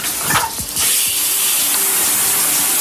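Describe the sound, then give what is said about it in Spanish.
Steady hiss of shower water pouring down continuously in a bathroom, fairly loud, with a few brief clunks and knocks near the start before the spray settles into an even rush. “Lo primero, la ducha, el cepillado de dientes, lavado de cara.”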